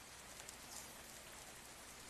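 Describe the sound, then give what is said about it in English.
Steady morning rain patters on a roof in a continuous, even hiss, quiet, with no voices and no distinct pauses or swells. “Hearing the rain fall on the roof.”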